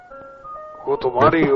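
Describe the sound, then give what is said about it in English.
A thin, tinny electronic organ melody, like a wind-up Casio organ, plays as telephone hold music, with a few steady sustained notes, then a louder voice comes in over the tune. “It's like a wind up Casio organ, you know.”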